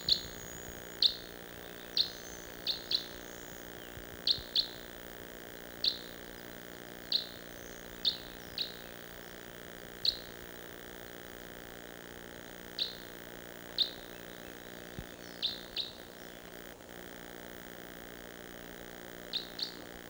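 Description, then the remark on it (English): Short, high-pitched bird flight calls repeat at irregular intervals, about fifteen brief chips, some in quick pairs, over a steady low hum with no talking. “I hear another, maybe a type 5.”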